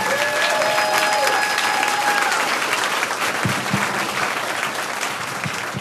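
A crowd applauds steadily for a guest invited to tell her story, dense clapping at a strong, even level before easing slightly toward the end, with a few faint tonal whistles or cheers early on.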